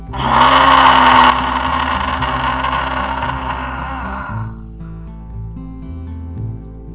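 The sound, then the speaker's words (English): A loud, raspy roar imitating a lion, made after a big breath in with the mouth open wide and the tongue stuck out and wiggling, pushed out as one long breathy exhale that peaks in the first second and fades away after about four seconds, over a low steady musical drone. “Make this lion. Take a nice big breath in. Open up really wide through your mouth, stick out your tongue, wiggle, and roar.”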